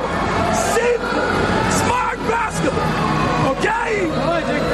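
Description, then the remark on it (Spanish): The head coach of Latvia's national basketball team yells angrily at his players during the second quarter of a game, in loud, hoarse, strained, forceful bursts that run nearly nonstop, over a steady background of crowd hubbub. “Buenos berreos, sí. Se está desgañitando, ¿no?”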